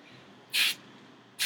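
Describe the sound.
A person shows off a talent, imitating ripping paper with their mouth in two short, raspy hissing bursts, the first lasting about a quarter second and the second cut off at the end, fairly loud over quiet background hiss.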